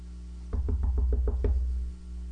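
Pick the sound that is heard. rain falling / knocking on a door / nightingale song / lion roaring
knocking on a door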